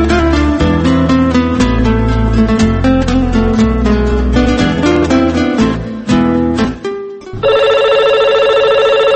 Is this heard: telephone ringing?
yes